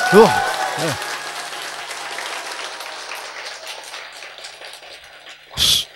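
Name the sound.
audience clapping hands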